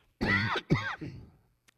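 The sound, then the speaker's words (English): A man coughs twice in quick succession, fairly loud, the second cough trailing off into a rough throaty rasp, with no talking around it; a preacher coughing during a Christmas sermon. “I thought I was going to get through the whole sermon without coughing, but I didn't do it.”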